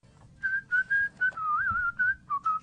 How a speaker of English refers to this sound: Oh, I'm not supposed to whistle. I'm sorry. No, they really gave me a notice to don't whistle on the air. Apparently, it actually has an effect on the buzzing. It drives my dog crazy when you do it.